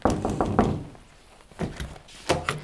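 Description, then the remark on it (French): Knuckles rap on a hotel room door in a quick run of five or so knocks, then a short pause before a few more scattered knocks. Fairly loud, with no voices. “Je tente une première porte.”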